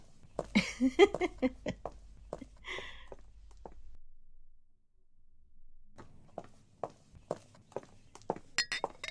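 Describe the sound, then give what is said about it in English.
Glasses clink and clatter in a quick burst as drinks are prepared, then a quiet pause before footsteps and light knocks of glassware pick up again. “We're gonna sit on the sofa while you get drinks ready, if that's okay with you.”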